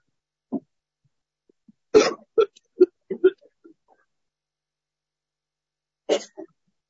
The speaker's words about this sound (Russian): Женщины, полсекунды, моя простуда все еще ощутима, я выйду, откашляюсь и вернусь к вам.